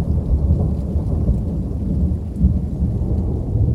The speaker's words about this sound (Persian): رعد و برق قرش غمگینانه آسمون با من بود. حرفی که توی گلوی من بود آسمون فریاد کرد.